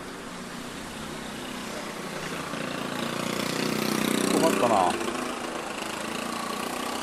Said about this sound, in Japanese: ひっきりなしに車が来るんで、ようやく渡れた。これね、横断歩道で待ってるんですけどね、そんな歩行者のことなんて1ミリも考えてくれないでしょ、こういうのって。